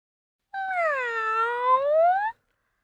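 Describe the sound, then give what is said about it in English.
A single long, drawn-out cat meow, clear, its pitch dipping and then rising toward the end, heard on its own with no talking. “I am a cat. I can climb trees.”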